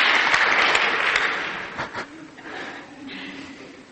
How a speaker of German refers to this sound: Okay, danke. Ein Applaus für ihn.